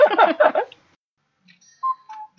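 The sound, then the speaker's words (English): A cuckoo clock whirs and clatters briefly, falls quiet, then gives a single clear two-note cuckoo call, the second note slightly lower, heard up close with no talking. “You wouldn't believe how many times on the podcast we have cuckoo clocks there.”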